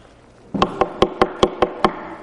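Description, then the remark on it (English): Seven sharp, evenly spaced knocks on a door, loud, rapping in a quick steady rhythm with no voices. “You hear a knock at your door, and your whole family is there, the father, mother, husband, wife, children, young men, young women, younger kids.”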